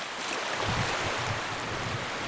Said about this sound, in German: Schließlich erreichen wir die Wasserkante, dort, wo die Wellen sanft gegen den Sand branden.